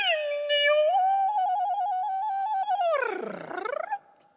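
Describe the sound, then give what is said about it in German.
A human voice imitates bird twittering: one loud, sustained, bright whistle-like tone that breaks into a fluttering trill, then swoops down and back up before fading out. “Dürfen wir das Vogelgezwitscher mal hören?”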